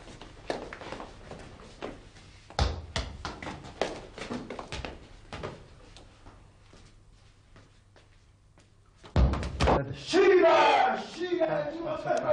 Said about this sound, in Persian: شما نمیشنوین صدا رو؟ کدوم صدا ها؟ صدای فوتبال بچه ها رو. آها اون صدا ها.